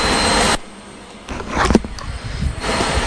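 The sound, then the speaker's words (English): An electric kettle, just switched on, heating up gives a steady, fairly loud rushing hiss that cuts out briefly, then swells back with faint rumbling and crackling before the full roar returns. “There's a noise from the kettle because Mummy's just switched that up”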